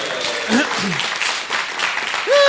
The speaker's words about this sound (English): Thank you, guys. Should we give her a cheer?